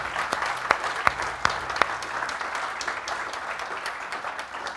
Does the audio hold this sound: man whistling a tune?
no